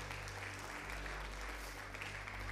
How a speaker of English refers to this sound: Right, give God a round of applause, everybody.